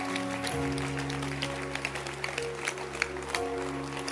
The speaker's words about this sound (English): I want you to stand to your feet and clap your hands for the Holy Spirit. That's appreciating.